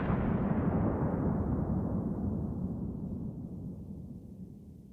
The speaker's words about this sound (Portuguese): No meio da floresta, de repente, uma explosão.